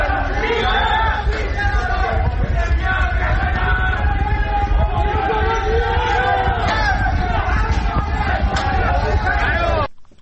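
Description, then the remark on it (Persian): A dense crowd at a night-time street protest in neighborhoods of Tehran province shouts and chants continuously, many voices overlapping into a loud, steady roar with rising and falling cries, ending abruptly after about ten seconds. “صدای اعتراضاتی که میشنیدید شب گذشته بود در محلات مختلف استان تهران بود که میشنیدید”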